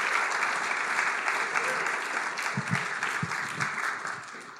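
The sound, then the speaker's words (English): A sustained round of audience applause welcoming guest ministers, dense and steady clapping from many hands, fairly loud throughout before tapering slightly at the end. “So we want to give you guys a big round of applause and welcome.”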